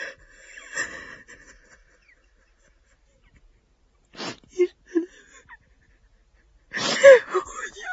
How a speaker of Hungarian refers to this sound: Ez a sírás.